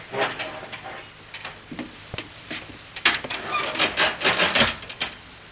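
An elevator door is yanked open: a run of sharp metallic knocks and rattles that builds into a louder, grinding clatter in the second half, with no voices.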